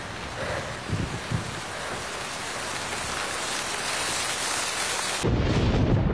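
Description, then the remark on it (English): Steady, heavy rain hisses across the whole recording, with low rumbling thunder swelling underneath and a deeper, louder rumble surging in near the end. “The storm prevents the Irish fleet from sailing.”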